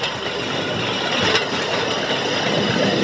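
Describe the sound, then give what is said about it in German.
Rail draisine wheels squeal steadily against the track over a continuous rolling rumble, loud, as another draisine rides up from behind, holding for about three seconds with a brief swell near the middle. “Auf einmal quietscht's hinter mir. Jemand fährt auf.”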